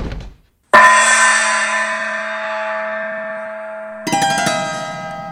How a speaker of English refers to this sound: Now ring that gong.